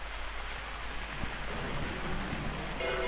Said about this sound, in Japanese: で、雨が降ってます。